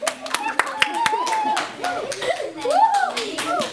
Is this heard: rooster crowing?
no